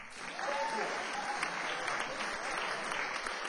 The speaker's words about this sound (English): And another round of applause for our members.